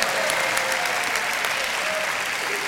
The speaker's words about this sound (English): Welcome to Resurrection Camp Meeting 2021, live from Family Worship Center in Baton Rouge, Louisiana. Now, let's go live to Family Worship Center as this service begins. Give the Lord a hand clap of praise, would you?